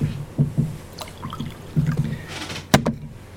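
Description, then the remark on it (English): Water is poured into a glass, a short splashy gurgle amid soft knocks and clinks of handling, with a sharper clatter near the end and no talking. “Okay, I can pour it.”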